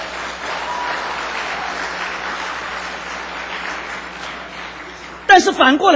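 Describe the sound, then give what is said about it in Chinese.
An audience claps steadily for about five seconds during a talk on worship and praise, a dense, even wash of many hands at moderate loudness, before a man's voice cuts in to speak as it fades. “但反过来讲，这是跟我一样的人，你们大家拍手。”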